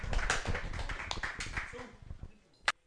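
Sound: round of applause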